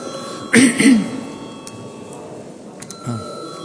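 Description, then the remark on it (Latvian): An electric parliamentary voting bell rings steadily before deputies vote on a bill amending the education law, a continuous metallic tone with a brief louder burst near the start, while faint murmuring and shuffling carry on in the background. “Paldies, lūdzu zvanu.”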